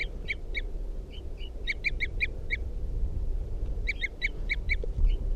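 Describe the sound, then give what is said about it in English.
Wild bird toop calls responding to decoys, from Wild Bird 316 perched at the top of a cedar at a campsite: three runs of five or six short, clear, high notes in quick succession, with brief pauses between runs, over a low steady background rumble. “Toops of the Wild Bird responding to the decoys.”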